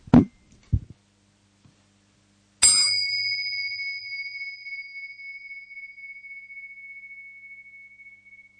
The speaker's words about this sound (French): Et je vais vous inviter à ce qu'on commence ensemble au son de cette cloche.